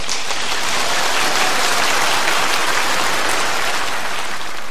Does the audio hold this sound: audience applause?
yes